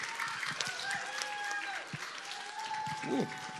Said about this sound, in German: Ja, gerne einen Applaus für Anke Engelke.